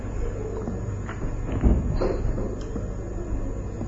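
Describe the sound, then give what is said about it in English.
A door is opened for someone who knocked and has no key, with a few clunks and a scrape of the latch, followed by fainter handling sounds. Low rumble sits underneath, and nobody speaks. “Yeah, he's knocking. He doesn't have a key? Oh, you don't have a key, huh? I also open.”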